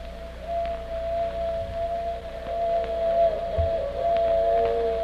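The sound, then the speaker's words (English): A railroad train in America hurries along the tracks into Nevada, Colorado and Wyoming: a steady low rumble with a long, sustained whining tone held over it and a few faint clanks, with no voices. “That's the railroad train hurrying along the tracks into Nevada, into Colorado, into Wyoming, where 20 years before Indians and wild animals roamed.”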